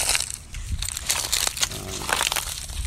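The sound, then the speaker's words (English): Footsteps crunch through dry leaves in a steady walking rhythm, each step a loud, crackling rustle that blends into the next, with no voices. “I love the sound of walking on dry leaves and walking on gravel.”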